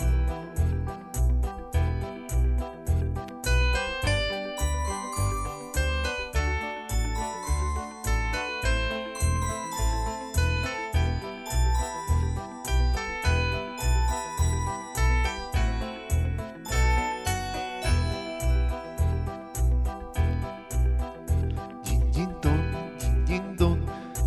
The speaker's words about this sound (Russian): Колокольчика звук, динь-динь-дон, динь-динь-дон